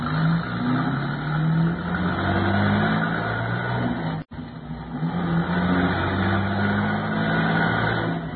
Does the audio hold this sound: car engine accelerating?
yes